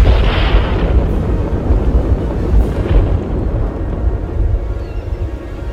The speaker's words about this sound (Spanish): Mientras el trueno hacía uso del estruendo para anunciar su llegada.